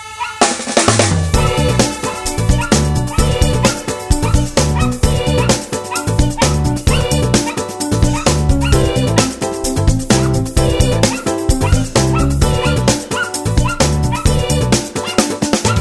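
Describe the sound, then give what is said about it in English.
A dog howls and yips almost nonstop, loud, its rising and falling cries pulsing in a steady rhythm for the whole stretch with no talking. “You make too much noise, Fussy," said Peter. "You sing like a fire engine.”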